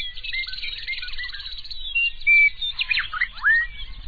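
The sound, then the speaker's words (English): A chorus of meadowlarks and bobolinks in summer grasslands of southern Saskatchewan: bubbling, jumbled warbles run continuously, then clear, sweet whistled phrases ring out over them, bright, with a faint low rumble underneath. “Meadowlarks and bobolinks combine their voices in a rich, ringing chorus.”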